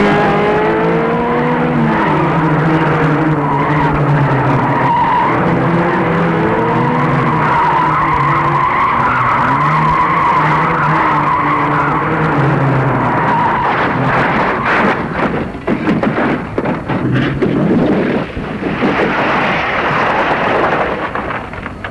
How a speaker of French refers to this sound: Je fus témoin d'un accident. Une voiture de touriste rouge qui était devant moi et roulait à vive allure. Dérapa dans un tournant, percuta contre un muret, et la vitesse la fit se renverser.